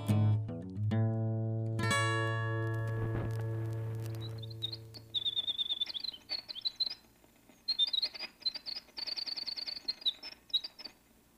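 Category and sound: bird, winter wren song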